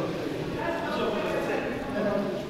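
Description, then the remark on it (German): Hard, rhythmic footsteps echo as a guided tour group walks a few steps into a railway tunnel, with a steady background wash and voices murmuring underneath. “Wir sind ein paar Schritte in den Eisenbahntunnel hereingegangen”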